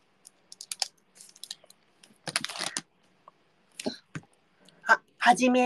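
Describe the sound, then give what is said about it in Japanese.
Scratchy strokes of a newly bought black ballpoint pen on paper, writing a message, come in short irregular bursts separated by pauses, followed by a brief voiced sound at the end. “メッセージを書きましょう。ボールペンを新しく買いました。”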